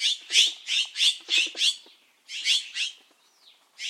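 A run of harsh, rasping Mexican jay calls, about five loud squawks in quick rhythm, a brief pause, then three more, with a faint thin note trailing at the end.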